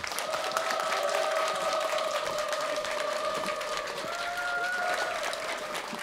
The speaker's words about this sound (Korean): 여러분 큰 박수 환호 부탁드리겠습니다.